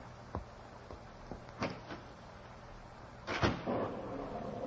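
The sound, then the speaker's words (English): A door opens with a few sharp clunks and a louder rattling scrape near the end, as a butcher opens the door of his new shop while rain falls, over a steady hiss of background noise. No one speaks. “I watched him walk inside the door and saw the thin face of the butcher as he opened the door.”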